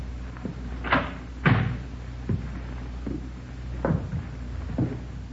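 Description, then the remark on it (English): An apartment door is tried and worked open: a series of knocking thumps and clunks, a couple of sharper impacts among them, spaced irregularly over a low steady hum. “Better try the door, huh?”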